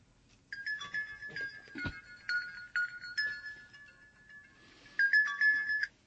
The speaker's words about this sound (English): Where did that come from? That was a hidden phone.